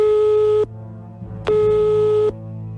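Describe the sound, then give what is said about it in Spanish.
A telephone ringing tone as the show Despierta San Francisco places a call: a steady electronic hum sounds, stops, then sounds again, two clear pulses separated by a short pause, with no one speaking. “Y nosotros sí que le llamamos al teléfono.”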